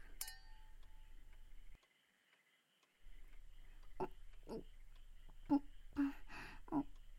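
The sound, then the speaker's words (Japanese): A single bright clink of wine glasses touching in a toast, in a tatami-floored room, rings out at the start, followed by a short silence and then soft, scattered clicks and mouth noises. “では、乾杯じゃ。”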